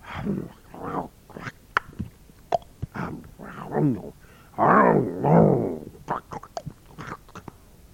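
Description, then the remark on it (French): Wolves growl and rumble in short bursts while eating potatoes, soaked bread and sweet flatcakes, with wet lapping and chewing sounds between the growls and a longer, louder snarl near the middle. “On n'entend plus que les claquements de leur langue.”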